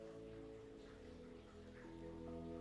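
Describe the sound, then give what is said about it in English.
Soft, steady rain falls outside in a continuous hiss with faint patters over a low background hum, with no voices; it has been raining for over a week. “It's raining cats and dogs outside right now.”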